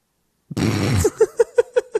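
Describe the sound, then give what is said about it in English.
A loud fart: one broad raspy blast trails into a quick sputtering series of about five rhythmic pops, heard on its own with no talking. “Yeah, that's not radio silence. I'm letting that fart of a joke lay where it lies.”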